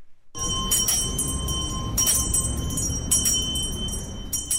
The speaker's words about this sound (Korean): 네, 미국에선 연말이 되면 사람들이 많이 오가는 거리나 상점 앞에 이 구세군이 운영하는 빨간 자선냄비가 걸려있는 걸 볼 수 있습니다. 냄비 옆에는 자원봉사자들이 종을 이렇게 딸랑딸랑 흔들면서 사람들의 후원을 기다리는데요.